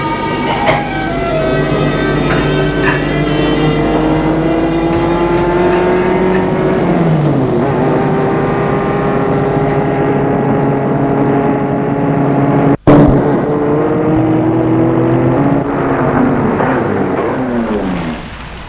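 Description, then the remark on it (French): A car engine hums steadily, its pitch rising and falling as it drives and accelerates, with a brief sharp click partway through. The car is arriving at a hotel in Paris. No one speaks. “Arrivé à Paris, vers son hôtel, et lui dit, avant qu'il ne sorte de voiture, tu auras ton cadeau dans une semaine.”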